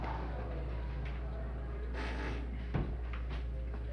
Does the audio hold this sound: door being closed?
yes